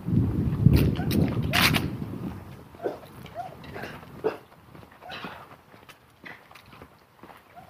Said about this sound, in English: Dog, dog, dog.